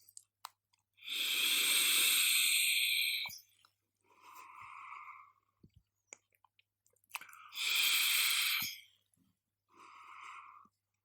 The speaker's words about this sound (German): Dampf mal raus und ich würde sagen, ich nehme jetzt einmal einen tiefen Zug vom Pinkman aus dem Juul Crown 3 und werde da so einen kleinen Erfahrungsbericht geben.